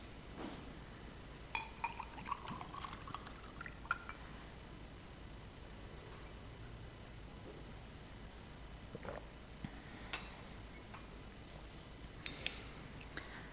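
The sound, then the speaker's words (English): Water is poured quietly at the end of a practice session, a soft, uneven liquid trickle with a few faint clinks scattered through it and brief brighter splashes near the start and end. No one speaks. “My body needs a little bit of water.”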